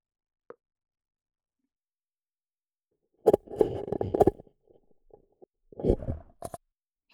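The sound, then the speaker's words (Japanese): Paper cups being lifted off the ears: a single faint tap, then two bursts of muffled, hollow scraping and soft pops, with quiet pauses between and no talking. “紙コップをお耳から取りつつ、一旦アプリを止めて。”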